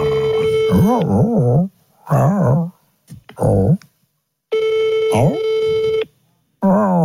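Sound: phone call ringing tone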